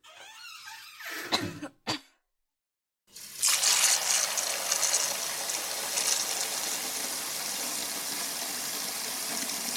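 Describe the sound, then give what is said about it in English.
A couple of short, throaty cough-like sounds and a brief silence. Then water is run and collected for washing someone, a steady rush pouring continuously to the end, with no talking. “Let me go get some water and all that other stuff.”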